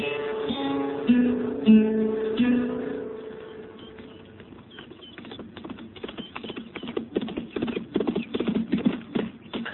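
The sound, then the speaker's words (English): Horse hooves clip-clop in a steady walking rhythm, growing louder over the second half after a fading musical tone at the start, with a muffled, narrow-band old-recording quality. “He's a good horse, Kitty.”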